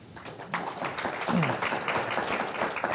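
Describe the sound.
An audience at a panel discussion on career and technical education applauds steadily, many hands clapping in a dense, continuous patter at moderate loudness, with a murmur of voices beneath.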